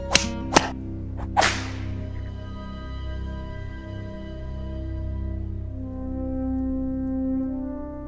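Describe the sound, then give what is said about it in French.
Four sharp whip cracks snap in quick pairs near the start, loud, then fade into a low, sustained droning music bed that carries on alone. “Il tirait tant qu'il le pouvait, et lorsque ses forces étaient épuisées, il se laissait tomber sur le sol et ne se relevait que sous une grêle de coups de fouet ou de bâton.”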